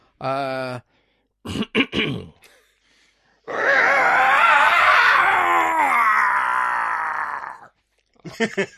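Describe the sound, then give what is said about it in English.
A person imitates a beast's roar, a long, rough, sustained roar lasting about four seconds, loud and gravelly with a wavering pitch, preceded by a short vocal sound and a few breathy grunts. “Do you want a roar now? We can try.”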